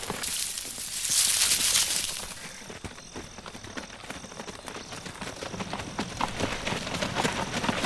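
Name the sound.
horses' hooves clip-clopping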